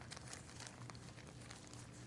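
Steady rustling and crinkling of paper, like pages being turned and a slip of paper tucked into a Bible at the book of Romans as a marker, a busy continuous texture of small crackles with no voices.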